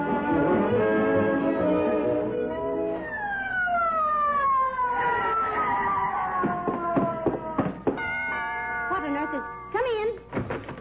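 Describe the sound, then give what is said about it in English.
An ambulance siren wails in long falling and rising sweeps, loud as it pulls in, following a few seconds of voices talking at the start. “What is this, McGee? Why the ambulance?”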